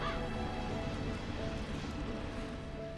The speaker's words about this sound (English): Oh, the bird got you there, buddy.